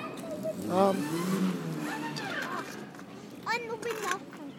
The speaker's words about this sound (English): Is that a bus I can hear? No, someone's driving out of the place.